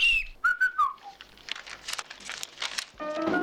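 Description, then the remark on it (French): Two people converse by trading short, bird-like whistled phrases with sliding pitches, followed by a stretch of crinkly rustling and a final burst of tonal sound. “Et donc là, ils finissent par, vous le voyez, dialoguer tous les deux en sifflant comme les oiseaux.”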